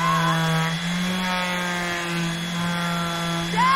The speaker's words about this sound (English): Jeff sands a wood plank on a boat.